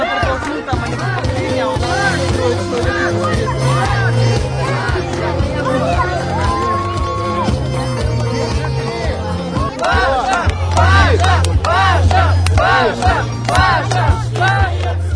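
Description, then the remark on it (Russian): Fans cheer loudly and continuously at the sports ground of the Church on the Blood during a Russian Silomer strength tournament on the gymnastic horizontal bar, many overlapping voices shouting and calling out, swelling into sharper, excited yells toward the end. “Для этого переместимся к болельщикам на спортивную площадку храма на крови.”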